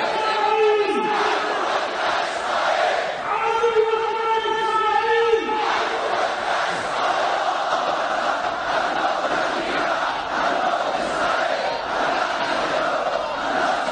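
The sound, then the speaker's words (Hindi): A large crowd chants slogans in support of Palestine in unison at a World Quds Day demonstration in Sanaa, Yemen, two long rising-and-falling shouted phrases standing out before the voices merge into a loud, continuous roar of chanting. “Yemen की राजधानी सना में बहुत बड़े पैमाने पर प्रदर्शन हुए और पूरा वातावरण फिलिस्तीन के पक्ष में लगाए जाने वाले नारों की आवाजों से गूंज उठा।”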